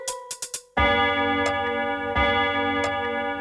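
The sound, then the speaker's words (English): A clock ticks four quick, crisp times, then a bright, ringing chime strikes twice and sustains, loud with no voices. “The clock struck two.”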